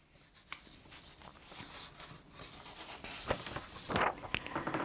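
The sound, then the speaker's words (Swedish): Sheets of paper are shuffled and rustled, a run of soft crinkling bursts that builds into louder, sharper rustles near the end, with no voices. “Ett ögonblick, mina vänner. Jag har papperna här.”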